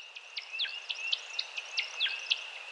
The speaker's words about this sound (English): To hear it, step out into the dusk of a quiet spring evening in the Connecticut countryside. This is the mating song of the male American woodcock.